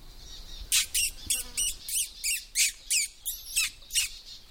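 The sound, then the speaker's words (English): A person makes a quick, rhythmic series of about ten sharp squeaky pishing noises, imitating small-bird calls to attract little birds, over a faint steady background. “It's often a good way of attracting little birds in, just a few squeaky note noises.”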